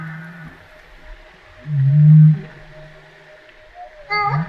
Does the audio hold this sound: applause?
no